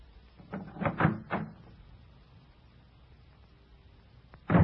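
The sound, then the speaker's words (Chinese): The door of David's house being opened after he asks Michal to open it: a cluster of wooden clunks and rattles, a quiet pause, then one more sharp thud at the very end. No one speaks. “米甲，开门呐，是我。”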